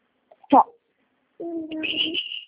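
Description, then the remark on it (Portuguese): A baby cries during a phone call: a short sharp yelp, then after a brief pause a sustained, strained wail lasting about a second, fairly loud. “um minutinho que o meu bebê tá chorando.”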